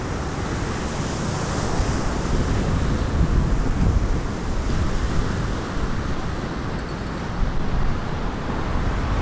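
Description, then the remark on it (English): Ocean waves wash against the Malecón seawall at the edge of Havana City in a steady, rushing roar, swelling slightly midway, with heavy low wind rumble buffeting the microphone throughout and no voices. “Here at the Malecón, a seawall at the edge of Havana City, where it meets the ocean.”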